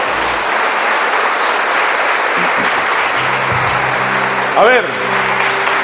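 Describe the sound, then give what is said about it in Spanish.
Sustained applause from a church audience for Jesus as King, a dense steady wash of clapping throughout, with a brief vocal exclamation and low musical tones rising beneath it near the end. “¿Quién le da un aplauso al Rey?”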